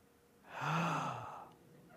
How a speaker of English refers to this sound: Are you ready to gasp? Here's one that's going to make you gasp. 3, 2, 1.